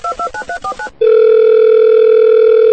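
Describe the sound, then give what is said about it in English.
A phone number is keyed in on a cell phone aboard a hijacked plane as five quick, evenly spaced touch-tone beeps, followed by a loud, steady, unbroken tone that hums on for nearly two seconds. “I gotta call Mary.”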